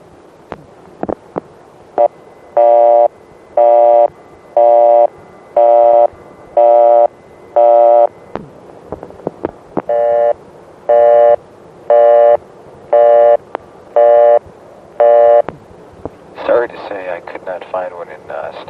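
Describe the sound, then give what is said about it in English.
A Bell System crossbar exchange busy tone pulses in two runs of steady, evenly spaced beeps, with switching clicks and line noise between them and a brief voice near the end. “We'll have a number one crossbar, number five crossbar, a step, if I can get one, in bell system, and a busy and general system.”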